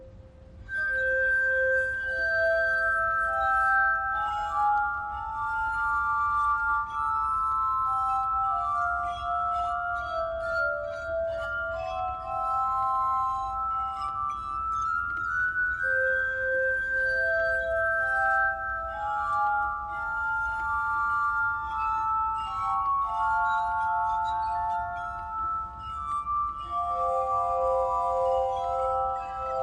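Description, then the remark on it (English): A solo glass harmonica plays a slow, flowing melody of pure, ringing tones that overlap and sustain, shimmering and ethereal, with no voices, filling the whole stretch at steady moderate loudness. “he decided to write a piece of music for solo glass harmonica”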